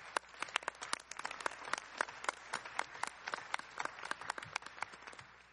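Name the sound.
round of applause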